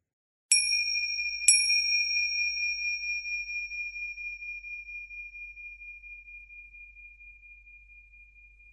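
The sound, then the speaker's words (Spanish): Finger cymbals (crotales) struck twice, a second apart, in a meditation session to mark the start of the first practice, each a bright, high metallic ping. The pure ringing tone then sustains and fades slowly over several seconds, with no voices. “Hemos escuchado el sonido de los crótalos y comenzamos con la primera de las 4 prácticas que componen este mandala, que sería la meditación Om Babaji nivel 2.”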